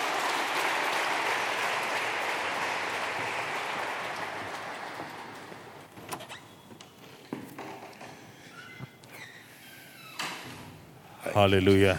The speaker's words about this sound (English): Give a big hand clap for them.